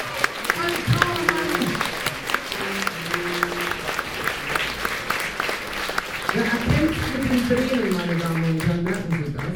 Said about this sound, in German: Und meine Damen und Herren, deswegen ein kräftiger Applaus für Alex am Schlagzeug.